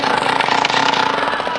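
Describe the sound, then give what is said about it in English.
A Rosebud Junior Assassin toy machine gun rattles in a loud, rapid, continuous burst of harsh clicking pulses, played as a solo in a musical performance using modern-day toys, steady for the whole moment with a buzzing, mechanical edge. “The soloists in tonight's performance are Little Timothy on the Rosebud Junior Assassin Machine Gun.”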